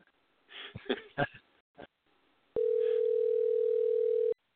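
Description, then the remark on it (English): A few brief muffled voice-like bursts, then a single loud, steady electronic ringing tone on an open telephone line, calling a guest to bring him onto the show, holds evenly for about two seconds before cutting off. “So let's get Chris online now. All right. We'll just leave the line open and bring him in.”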